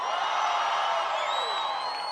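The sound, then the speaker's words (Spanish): A large crowd of young people of Puerto Rico, in a church at night, lets out a sustained, loud roar of joyful shouting on request, with a few high whoops rising above the mass of voices throughout. “Toda la juventud de Puerto Rico que dé un fuerte grito de júbilo.”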